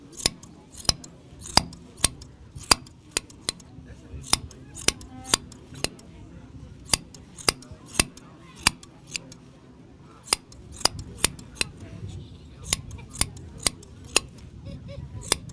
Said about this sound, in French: Ouais, on va écouter un peu les ciseaux à l'antenne. On va vous laisser une minute avec le bruit de la tonte. Attention aux oreilles, là.